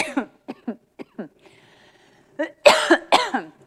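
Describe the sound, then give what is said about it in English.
A run of short, dry coughs in quick succession, a brief pause, then a few harsher, louder hacking coughs, like someone fighting an irritating tickle in the throat. “Man, it's a stupid tickle cough.”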